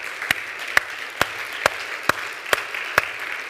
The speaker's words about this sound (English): Can we give our teachers a hand clap for all of what they do?